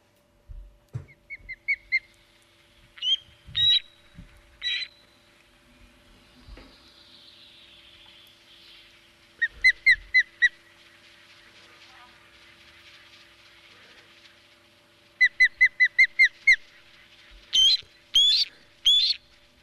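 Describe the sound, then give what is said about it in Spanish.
A bird of prey calls in repeated bursts of sharp, high, rapid chittering notes, some clusters quick and staccato, others drawn out and piercing, ringing out clearly over a faint steady hum. “Porque a mí me apetece mucho escuchar una ave rapaz.”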